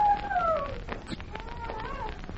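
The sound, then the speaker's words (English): A dog howls in long, wavering tones that slide up and down in pitch, fairly faint, with no voices over it. The howling seems to come from near a lone pine. “Yes, I hear it. It's a howling dog.”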